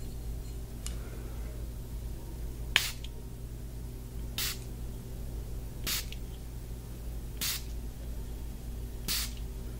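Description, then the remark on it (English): Five short, hissing bursts from a face mist spray bottle, spaced evenly about a second and a half apart, each a quick sharp spritz over a steady low hum. “Just a few sprays.”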